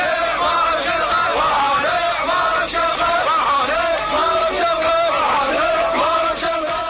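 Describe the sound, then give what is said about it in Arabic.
A large crowd shouts and chants together in a continuous, loud roar, many overlapping voices yelling with rising and falling cries, at a street demonstration called by the Islamic Virtue Party in Amarah, Maysan, Iraq, celebrating the execution of ousted Iraqi president Saddam Hussein. “كانت التظاهرة التي دعا لها حزب الفضيلة الإسلامي قد طاف الشوارع المحافظة معلنة تأييدها وفرحها بتنفيذ حكم الإعدام بالرئيس العراقي المخلوع.”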